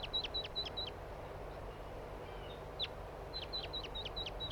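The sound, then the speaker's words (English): A wild bird calls from a tree with quick runs of short, sharp, high-pitched chirps, a burst at the start, a lone note, then another rapid series, all over a steady low rumble. “Here's one of the wild birds now in a tree.”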